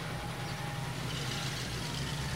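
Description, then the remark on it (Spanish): A deep, continuous rumble of engines from about 40 big trucks heading to a town resounds all around, steady and fairly loud, with a broad roar layered over the low throbbing drone and no voices. “Me asomé a la puerta porque un ruido de motores retumbaba por todos lados.”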